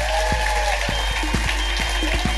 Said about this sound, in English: please give a massive round of applause to the amazing Lou Sanders